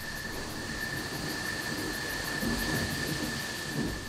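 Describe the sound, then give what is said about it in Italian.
A low rumble of thunder rolls beneath a steady hiss like rain, swelling slightly toward the end, with no voices present. “le parole del vento, lo scroscio della pioggia, il tuono.”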